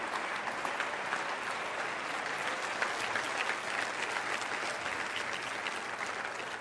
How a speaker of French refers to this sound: Applaudissez le Seigneur.